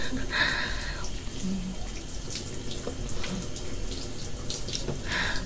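Steady running water from a shower, a continuous hiss and splatter that holds at an even level the whole time, with no voices.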